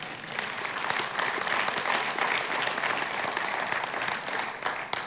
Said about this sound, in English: Doesn't that deserve a clap from somebody?